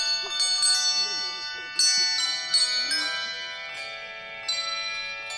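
Bell ringers' handbells ring out in a cluster of overlapping bright strikes at the annual Christmas ceremony at the General Grant tree, the nation's Christmas tree, their tones sustaining and shimmering together, with faint crowd murmur underneath in an open outdoor setting.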